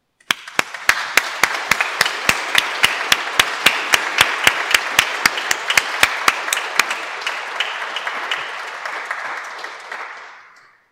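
A room full of people applauds warmly, with one pair of hands clapping in a strong steady beat over the crowd for the first seven seconds before the applause gradually fades out.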